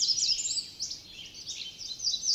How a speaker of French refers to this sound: Oh, t'as entendu, Biscuit? On dirait que les oiseaux nous répondent.